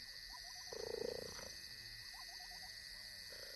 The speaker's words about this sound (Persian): چیتاها مثل اغلب گربه های بزرگ غرش نمی کنند، اما می توانند خورخور کنند. در گربه های خانگی این نشانه ای از رضایت است، اما خورخور چیتاها همچنین به منظور تقویت پیوندشان است.